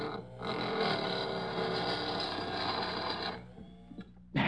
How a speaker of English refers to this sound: I just got one more hole to drill. Hurry! I'll put this drill through your skull if you don't shut up.